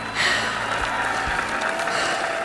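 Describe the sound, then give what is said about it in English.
A steady, dense wash of crowd noise at a race, cheering and clapping blended into a continuous roar that holds at an even level without any single voice standing out. “I can hear the crowd and they're cheering.”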